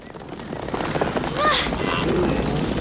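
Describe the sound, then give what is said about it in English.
A rapid, steady drumming of many antelope hooves galloping away across the ground, a loud continuous rumble with a few brief animal cries rising over it, with the young lion Kiara behind them. “The nearby antelope prick up their ears and gallop away, with the young lion too far behind.”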